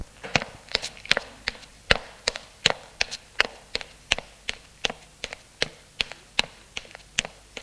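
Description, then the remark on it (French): Footsteps of a woman climbing the stairs to the upper floor of a house: about twenty sharp, woody taps in a brisk, steady rhythm, each step clear and moderately loud, with no voices or other sounds alongside. “Elle monte à l'étage.”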